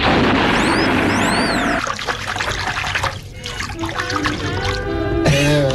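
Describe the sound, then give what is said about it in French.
Water pours and rushes in a loud, steady stream as someone urinates, changing texture partway through, with brief high whistling tones near the start and a gurgling, trickling finish. “Excusez-moi, j'ai fini de faire pipi. Non, c'est une rivière, docteur.”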